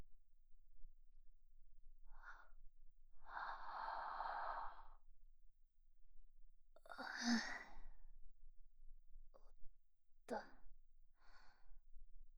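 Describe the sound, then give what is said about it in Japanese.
A long, breathy yawn drawn out, followed by a second shorter exhale and a few soft breaths and small mouth sounds. “あくびが不思議だな。”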